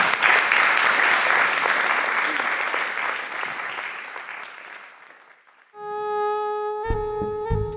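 A crowd claps loudly and steadily for a woman called onto the stage to present the prizes on behalf of the Capital of Culture, the dense applause slowly thinning out, then stops and gives way to a sustained tonal musical passage with held notes.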